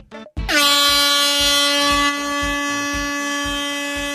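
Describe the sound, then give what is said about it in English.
A loud air horn sounds in one long, steady blast that starts abruptly and holds its bright, brassy tone to the end, with a faint rhythmic low thumping underneath. “I say take an air horn.”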